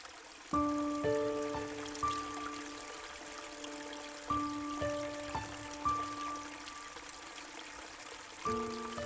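A steady, even rush of water from a cool mountain stream at Tian Musan in Zhejiang Province fills the background while sparse, resonant plucked notes ring out at irregular intervals above it. No voices are heard.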